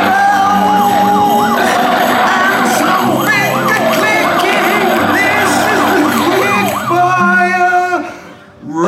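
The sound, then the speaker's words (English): Police sirens wail loudly and continuously, several overlapping rising-and-falling tones layered over a busy background hum, before cutting off abruptly near the end. “Let's have some police sirens and an animal growling”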